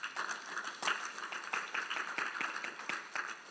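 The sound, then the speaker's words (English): A church audience gives a clap offering for the Lord, clapping together in a steady, dense stream of sharp hand claps, with occasional louder accents standing out from the continuous applause. “Can we have a clap offering for the Lord?”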